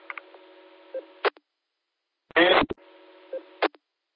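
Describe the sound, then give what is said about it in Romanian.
Short electronic dialing tones come through a hissy, band-limited line, with sharp clicks and one loud buzzy burst in the middle; no one speaks. “Da bine, eu sun acum.”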